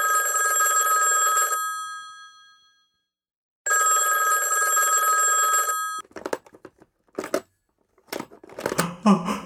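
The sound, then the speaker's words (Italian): A telephone bell rings loudly at night in a house where everyone is asleep, in two long, bright, trilling bursts separated by a short silence, followed by a few brief snatches of a voice speaking. “La calma è immobile, quando un suono rompe il silenzio della notte.”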